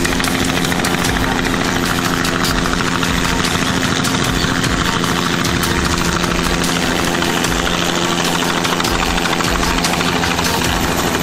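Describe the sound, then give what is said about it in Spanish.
A loud helicopter engine roars steadily with a dense, vibrating drone and rotor hum throughout, as the helicopter returns and comes down to land on a road. No one speaks. “El helicóptero regresaba y se disponía a aterrizar en la carretera.”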